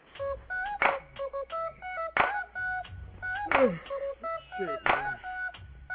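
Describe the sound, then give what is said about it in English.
A rap song intro plays: a beat built from telephone keypad tones beeping in steady pairs, punctuated by sharp, loud hits roughly every second and a half, with no one talking. “I'm going to play this song right here just because I know fam really enjoyed this cut.”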